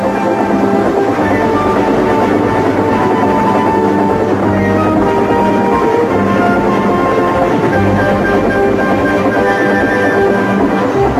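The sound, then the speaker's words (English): A steam engine, Percy, running fast and pulling cars, rattles steadily along the rails, a loud, continuous rumbling clatter with a droning hum over it and no voices. “Percy was bucketing along with flying wheels and Harold was high and alongside.”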